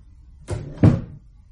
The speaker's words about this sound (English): In my mind's eye, as Struve closed the door behind him, I saw Strickland throw his hat onto the table and sit down on a hard kitchen chair.